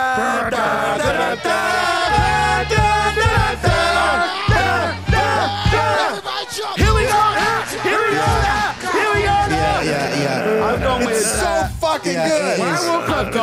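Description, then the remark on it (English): A crowd yells and cheers loudly and continuously, with overlapping shouts, whoops and bellowing voices blending into a dense, energetic roar that stays strong throughout. “At the count of three, I want everybody in the place to be. Oh, shit. Make some noise if you're down with me.”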